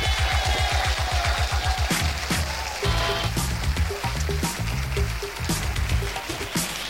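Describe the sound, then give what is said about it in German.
A radio show audience at the Interflug youth club in Berlin-Schönefeld applauds loudly for the show's 400th broadcast, in a dense, continuous wash of clapping, while rhythmic, pitched music plays underneath the whole time. “Ich darf Sie bitten, liebe Gäste, einen herzlichen Applaus in die Städte und Dörfer unserer Republik zu schicken.”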